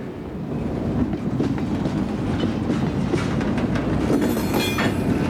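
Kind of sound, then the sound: vehicle, train clattering along rails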